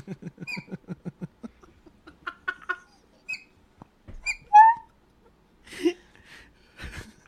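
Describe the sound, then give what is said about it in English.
A series of short, squeaky horn honks chirps rapidly in a rhythmic burst, then a few higher, thinner peeps follow, sounding like a baby bird's cheeping, clear. “That horn sounds like a baby bird.”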